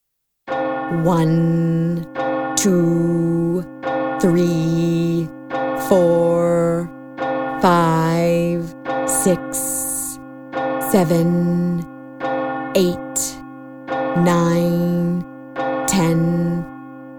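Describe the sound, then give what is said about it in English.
A clock in a palace strikes twelve o'clock: loud, ringing bell tones sound one after another at a slow, steady pace over a sustained humming drone, each chime fading into the next. “Cinderello hears the clock.”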